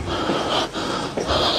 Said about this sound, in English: Let me hear it. Listen to breathing.